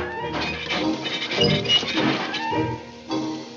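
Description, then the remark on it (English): Someone bangs on an empty, hollow tin chest: several hollow metallic clangs ring out over about three seconds, each strike leaving a bright, tinny resonance that hangs before the next knock. “Oh, bang on my chest if you think I'm perfect. Go ahead, bang on it. It's empty.”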